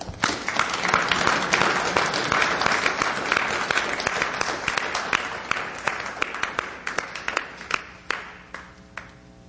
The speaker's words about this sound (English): let's give a warm round of applause to Mr. Jordan Maxwell